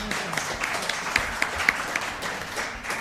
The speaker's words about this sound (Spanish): Venga, pues vamos a un aplauso que llevas por ahí.